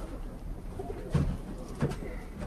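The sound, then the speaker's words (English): Pigeons coo softly in two low, throaty bursts a moment apart, over a steady hum of background noise. “having the pigeon bug knows this is going to be amazing to all the other pigeon flies and my friends that see me with the birds.”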